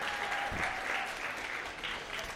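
Sustained applause from a crowd, a dense steady patter of many hands clapping at moderate volume throughout, with no voices standing out.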